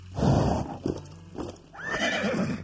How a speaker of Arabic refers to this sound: زفر الحصان من أنفه وركل حوافره الخلفية وأطلق صهيلا خافتا يخبر به الخليفة أنه مستعد رغم قلقه.